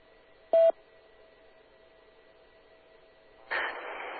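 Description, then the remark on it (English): A single short electronic beep on a radio call-in line sounds over a faint, steady hum, followed after a quiet pause by a sudden rush of hissing radio static that continues to the end. “wait for the beeps.”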